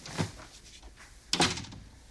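A door opens with a soft rustle, then a sharp latch click and thud about a second later, followed by quiet room tone, as a man comes into a bedroom. No one speaks.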